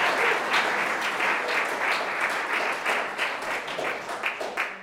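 Steady applause from an audience fills the room, a dense patter of many hands clapping at once that holds evenly for several seconds before starting to thin out.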